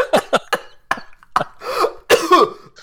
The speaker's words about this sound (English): Coughing is canon. No! No! You need a drink of water, sir?